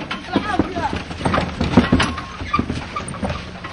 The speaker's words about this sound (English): In Gaza City, where donkey carts jockey with cars for space on the streets, Hamas has long enjoyed strong support.